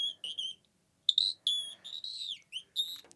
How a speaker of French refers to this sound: Je me promène dans la nature. Je sens des feuilles sous mes pas. Les oiseaux chantent.